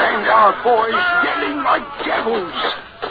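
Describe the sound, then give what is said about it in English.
A group of sailors yell and holler together as they board an enemy ship, in a loud, overlapping clamor of raised voices, rising and falling for a few seconds with no clear words. “Our boys yelling like devils.”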